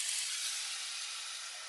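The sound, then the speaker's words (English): A steady, bright hiss of a tiny bit of water sizzling and steaming in a hot pan as browned food forms a crust, continuous, with no voices over it. “I hear the sizzling.”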